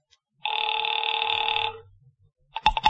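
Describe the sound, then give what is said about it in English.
A telephone rings after a number is dialed on a dial telephone, a single sustained, buzzy electric burst, loud, then falls silent before a brief clatter of clicks and knocks. “Mallard left, and I took the slip of paper he'd given me with Ayers' phone number on it, sat down by Amici's pet aversion, and doodled with the dial.”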